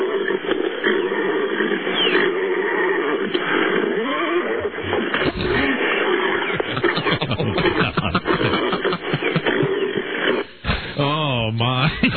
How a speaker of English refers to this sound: Wait, horse is making a lot of noise. Wouldn't the woman get trampled? Right? If the horse is real excited?